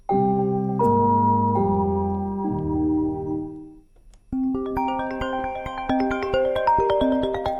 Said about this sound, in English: Tumutunog ang mga telepono. Sunod-sunod din ang tunog ng mga bagong email. Yan ang dose-dose ng beses sa bawat araw na nararanasan ng Immigrant Women's Speak Out Association sa Western Sydney.